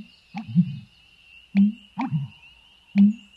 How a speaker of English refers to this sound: There's no sound quite like a male bittern's, broadcast most often in the dim light of dawn and dusk.